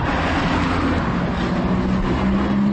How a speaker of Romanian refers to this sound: Am regăsit Bucureștiul aproape neschimbat. Noua capitală europeană m-a întâlnit cu aceeași gara de nord, poate un pic fardată, și un trafic infernal la ora 7 dimineața.